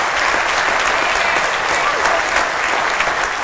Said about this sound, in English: Why don't you give the Lord a round of applause? Amen.